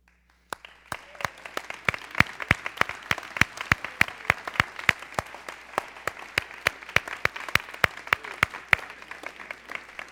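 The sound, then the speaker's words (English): An audience applauds steadily, many hands clapping in a dense, sustained patter of sharp claps that starts abruptly and continues at a fairly even loudness throughout, with no speech over it, showing appreciation for military members who stand. “Don't get weary in your clapping because we got a long list here.”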